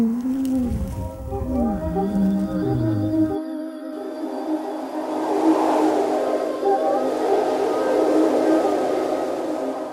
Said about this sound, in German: Rieselt dort ein Sandkorn herunter, kann es Millionen andere ins Rutschen bringen. Und das kann ziemlich Lärm machen. Die Düne, sagt man, singt dann oder sie brummt oder dröhnt.